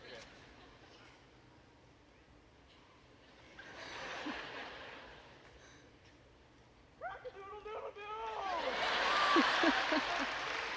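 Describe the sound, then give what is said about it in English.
A voice lets out a run of squawking, chicken-like clucks as a chicken imitation for an audience, then audience applause swells up and carries loudly to the end, with a smaller burst of clapping earlier. “Round of applause for his chicken.”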